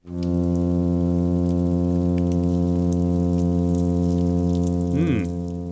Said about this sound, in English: Okay, here's a hum sound produced by the plainfin midshipman.